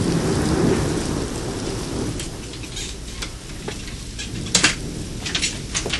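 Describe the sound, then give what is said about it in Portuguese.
Steady, hissing rain falls throughout, with a deep roll of thunder rumbling in the first seconds and sharp drips and splashes later on. No one speaks. “E a chuva continua caindo, sem parar.”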